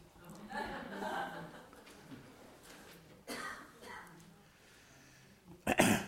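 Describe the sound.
A couple of sudden, raspy coughs stand out, a softer one midway and a louder, harsher burst near the end, following some quiet voice-like murmuring at the start.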